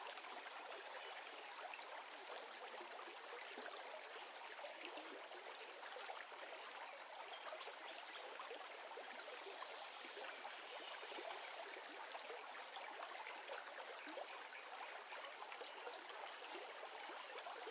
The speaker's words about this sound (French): Puis les confier à la rivière qui se chargera de les emporter au loin et de les recycler.